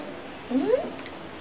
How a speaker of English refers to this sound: Please, please, cat. Oh, the cat is crying.